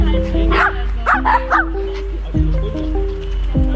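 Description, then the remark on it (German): Several dogs bark and yip in quick bursts outdoors at a fenced dog park by the Wollmarktteich in Arnstadt, a cluster of sharp woofs followed by scattered yelps, over a steady low background hum. “Die Hunde haben hier nicht nur Auslauf, dank der Baumstämme können sie sogar sportlich beschäftigt werden.”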